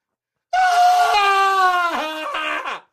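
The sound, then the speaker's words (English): A person vocally imitates a pained scream: a single loud, drawn-out, high-pitched cry lasting over two seconds, wavering and dipping near the end before cutting off. “They hold their head for about 10 minutes, and they let out the scream.”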